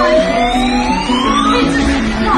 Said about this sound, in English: And the claw comes down, and if you can grab one and it drops it down the chute, you win. You can hear it there. Claw dropping. Miss the kitten.